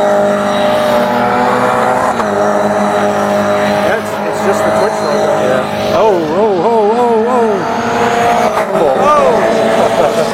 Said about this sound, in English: Yep. Is it coming? Oh, we got cars passing. Oh, yeah. Here it comes. It's a pink engine. It's a rolling roadblock there. Yeah. During qualifying. Here it comes. Right here.